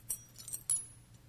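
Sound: keys jangling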